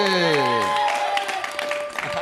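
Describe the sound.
An audience bursts into steady applause, a dense wash of clapping that holds loud through the whole stretch, with a few voices and whistle-like tones rising briefly over it at the start.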